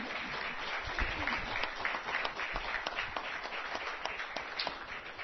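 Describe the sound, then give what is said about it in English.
A church audience applauds its Sunday school teachers, many hands clapping together in a dense, continuous wash of sound that holds for several seconds. “We should give a round of applause to all of our Sunday school teachers.”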